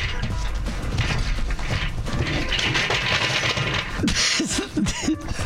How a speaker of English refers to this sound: Did you just fall out of your chair? Are you okay?